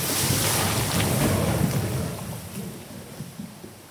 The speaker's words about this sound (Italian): Questo è il suono prodotto da una massa di acqua e sabbia che scende lungo un canale simulando quanto successo lo scorso anno a Blatten, dove una frana ha travolto il paese e causato la morte di una persona.